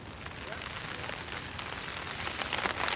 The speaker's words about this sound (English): Looks like the rain did not hold off. Rain is coming down. Nothing that some branches and some plastic can't solve, though. So we have a little shelter here, and the tents have the rain flies on, so we should be okay.